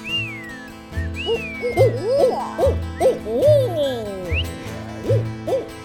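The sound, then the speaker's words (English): Repeated owl-like hoots and swooping, whistly bird calls overlap one another, fairly loud, over a steady low hum: people imitating bird calls to open a song they are performing. “We need some bird calls here.”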